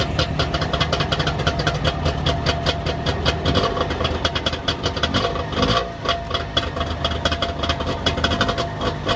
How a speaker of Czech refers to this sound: Co, poznali jste tenhle ten zvuk? Typický, charakteristický, když si k tomu doplníme totálně modrý kouř a neuvěřitelný smrad, tak se samozřejmě dostáváme k Trabantu 601.